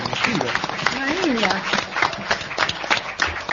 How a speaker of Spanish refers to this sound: entonces, el aplauso por el tercer lugar.